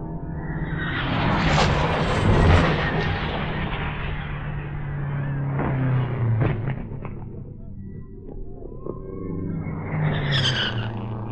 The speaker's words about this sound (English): 100 feet from my microphones on the retaining wall, a car spin.